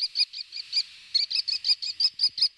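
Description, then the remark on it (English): Rapid, harsh bird calls repeat in a steady series of about a dozen shrill bursts: looped woodpecker distress calls played from a Bird X Woodpecker Pro sonic deterrent device, with no voices present. “and sonic devices like the Bird X Woodpecker Pro, which plays loops of woodpecker distress calls in the sounds of predators.”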